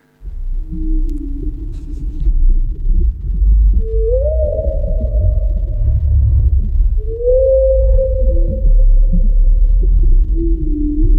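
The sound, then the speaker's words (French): Long, mournful whale calls rise and hold, two drawn-out moans standing out over a deep, steady underwater rumble, with softer lower tones drifting in between. “Et elle vit une grosse baleine.”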